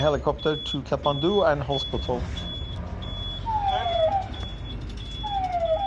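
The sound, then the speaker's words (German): An ambulance siren wails in rising and falling sweeps amid steady city traffic rumble during an ambulance ride through Kathmandu, with voices talking briefly at the start before the siren comes through. “Auch die Fahrt durch Kathmandu mit dem Krankenwagen.”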